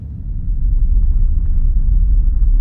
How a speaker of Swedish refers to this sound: Och som om berget ville bekräfta min rädsla avbröts mina tankar av ett svagt muller. Det började vibrera i marken och jag kunde höra stenar som brakade ner i marken bakom oss. Shit, det rasar